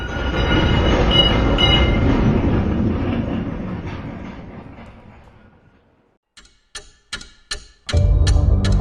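A historic tram in Gdańsk rumbles along its rails, its low rolling noise fading away. A few sharp clacks of wheels over rail joints follow before the loud rumble returns.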